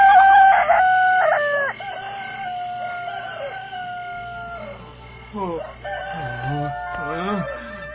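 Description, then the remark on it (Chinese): A man's voice imitates a rooster crowing toward all sides at the Hangu Pass, with a loud drawn-out cock-a-doodle-doo held for several seconds, followed by a few shorter, wavering crow-like calls near the end. “刘四说完就往四面八处学起公鸡叫。”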